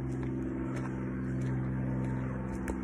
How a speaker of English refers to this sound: Let's just wait for the plane to go over. Yeah. Because it's really annoying. It's making a lot of background noise. This is like a Cessna just going over.